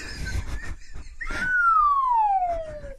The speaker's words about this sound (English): The up and down. Yeah, the cartoon slide so whistle. I've got to make sure I don't step on the down, you know, thinking it's only going to be the up.